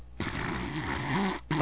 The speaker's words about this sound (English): I can't hear myself think with all that snoring. Well, he sounds like an old motorboat. I think he's pretty tired, is what I think.